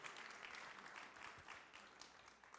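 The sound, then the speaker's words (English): A crowd applauds steadily to receive a speaker invited up, a dense wash of many hands clapping at once, sustained and fairly loud throughout with no voices standing out. “And I just want to invite him up now and just let's just receive him with a round of applause and blessing for everything he's poured into our lives.”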